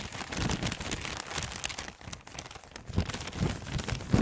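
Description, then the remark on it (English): Continuous crinkling and rattling of newspaper pages being handled and crumpled on a radio show, a dense papery rustle lasting several seconds with a few louder crackles near the end; no one speaks. “I like the Hank paper rattle”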